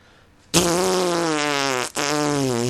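A loud, long, buzzy fart sound effect blares suddenly after a short silence, briefly breaks off, then sputters on to the end. No one speaks.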